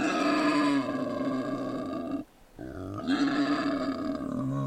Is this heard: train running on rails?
no